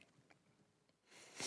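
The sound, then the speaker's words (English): A single sharp nasal sniff rises out of near-silence near the end, a brief breathy hiss drawn in through the nose, fairly soft, with no talking. “I'm going to sniff my nose real quick.”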